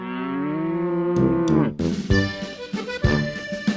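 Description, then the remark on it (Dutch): A Montbéliard cow lets out a long, low moo, followed by rougher, broken bellowing and scattered barnyard clatter, with no one speaking. “Hier werd na de oorlog van 1870 de Montbéliard-koe gefokt.”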